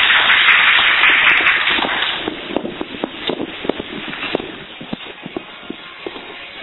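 An audience applauds to welcome a speaker: a dense burst of clapping for about two seconds, then it thins into scattered individual claps that gradually die away. No one speaks.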